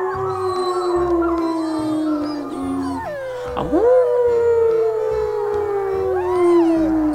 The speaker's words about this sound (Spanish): Los lobos aullaron buscando un bocadillo. Estaban hambrientos. Se notaba por sus aullidos que querían comer. ¡Aú!